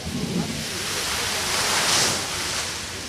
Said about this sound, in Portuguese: Os famosos vulcões de água que existem no Parque das Nações, que trazem à memória exatamente a exposição a Expo 98, não têm os vulcões a funcionar na sua totalidade.